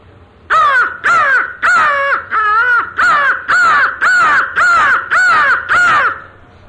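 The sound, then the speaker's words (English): A crow caws nine times in a steady, evenly spaced series, each call harsh and loud, with no other sounds or voices in between. “Now, I have a pet crow, and people think that a lot of farmers shoot them.”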